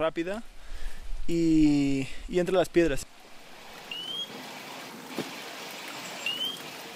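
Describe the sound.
A man talks briefly, then river water trickles steadily over rocks in a soft, continuous wash, with a couple of faint high chirps.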